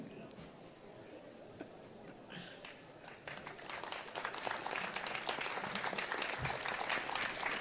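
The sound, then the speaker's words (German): An audience claps, starting as a few scattered claps and swelling after a few seconds into steady, dense applause that stays fairly soft throughout. “Fällt es euch schwer, da zu klatschen?”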